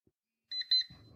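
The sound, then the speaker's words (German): A phone alarm app goes off with two quick, high-pitched electronic beeps, clear, as a location-based alarm signalling arrival near the destination, the Ulmer Münster, then gives way to a low rumbling handling noise. “Aktiviert sich der Wecker und gibt mir die Nachricht, du bist gleich da.”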